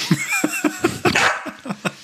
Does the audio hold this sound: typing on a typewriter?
no